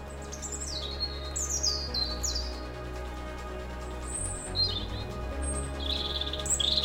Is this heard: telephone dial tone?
no